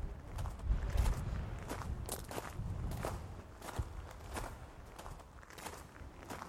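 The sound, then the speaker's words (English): Footsteps echo steadily across a hard floor inside a ruined medieval church in Ireland, rebuilt by the Normans in the 1300s, each step ringing out with a long reverberant tail off the parabola roof. The walking is unhurried and moderately loud, with no voices. “Here we are in the medieval church on the inside, hearing a wonderful echo off the parabola roof.”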